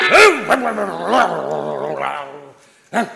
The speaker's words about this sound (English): Shut it, dog. That's no way to treat a visitor.